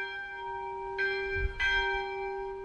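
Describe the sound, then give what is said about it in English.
A monastery church bell tolls with a deep, sustained ring, struck twice in slow succession so fresh bright overtones bloom over the lingering hum, calling people to pray. It sounds resonant, with no voices. “Actually, the very first thing is a bell for about 20 or 30 seconds, a tolling bell.”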